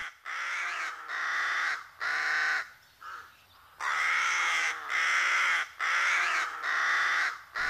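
Harsh, raspy rook caws from a colony overlap in loud, repeated bursts with brief gaps, several birds calling continuously.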